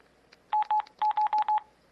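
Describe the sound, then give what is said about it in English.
Six short electronic phone keypad beeps in quick succession as buttons are pressed (the right soft key, the number 4 on the number row of the QWERTY keyboard, then OK) to erase, each a steady mid-pitched tone of about a tenth of a second, clear and fairly loud, with faint background noise and no talking. “And, like I said, you would hit your right soft key, and then the number 4 on the number row of the QWERTY keyboard, and then OK again, and it will say erased.”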